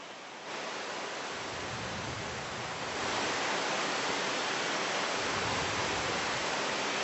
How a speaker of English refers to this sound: It's so nice. Krishna is sending rains.